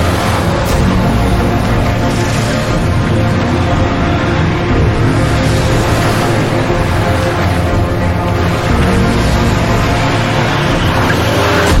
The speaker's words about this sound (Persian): ماشین کوبیده شد به دیوار.